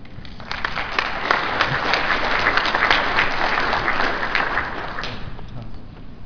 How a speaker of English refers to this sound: So give him a round of applause again